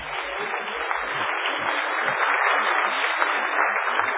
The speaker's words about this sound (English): Give a round of applause for my wife.